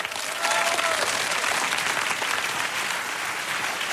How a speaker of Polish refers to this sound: Zaprośmy, wielkie brawa.